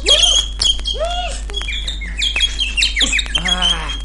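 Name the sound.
bird chirping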